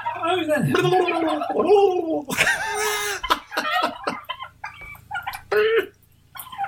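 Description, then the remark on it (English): Several turkeys on a farm in Tuscany gobble in loud, rapid, gurgling bursts that overlap and follow one another almost continuously, with a low steady hum underneath. “I'm now going to approach the turkeys on the farm that I'm on.”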